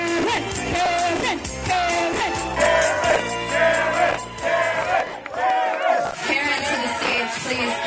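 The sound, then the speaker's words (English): A crowd at a karaoke event shouts and chants together in loud, sustained bursts, many voices rising and falling in rhythmic calls begging a woman to come up and sing, with cheers and whoops mixed in. “After her friends belted out a few off-key karaoke standards, they and the crowd began to beg for Karen.”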